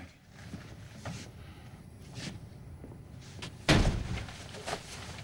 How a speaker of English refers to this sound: She closes the door after her.